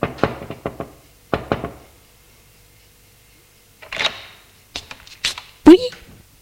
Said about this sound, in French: Entre dans l'immeuble. Frappe à la porte de la concierge qui ouvre.